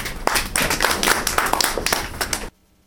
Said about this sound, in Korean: 박수요